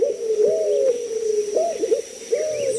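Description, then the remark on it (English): A white-crowned pigeon, a Caribbean bird, coos in low, mellow phrases, three rising-and-falling calls spaced about a second apart, clear and unaccompanied by any talking. “Listening on Key West to mangrove cuckoos and gray kingbirds, you might imagine yourself in Cuba or the Bahamas, and you might see another Caribbean bird, the white-crowned pigeon.”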